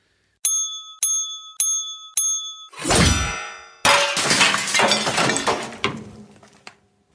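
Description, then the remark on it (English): A small bell rings four times in quick succession, then the sharp whooshing strike of a samurai sword slices the bell clean in two, followed by a loud metallic clatter and jangling as the pieces scatter and settle. “You sliced that bell clean in two.”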